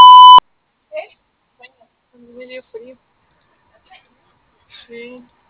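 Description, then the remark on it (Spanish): A single loud, steady voicemail beep from a Spanish-language voicemail service, signalling the start of message recording, lasting under half a second, followed by quiet, scattered fragments of faint voices. “Grabe su mensaje. Marque la tecla gato cuando termine.”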